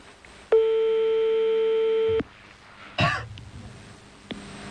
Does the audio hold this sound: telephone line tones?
yes